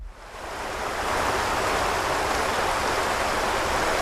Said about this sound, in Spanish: ¿Cómo suena el río Deva en 2016, que cuando está grabado? Pues así.